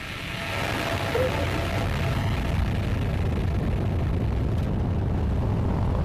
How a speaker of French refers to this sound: 4, 3, 2, unité, top, allumage moteur Vulcain.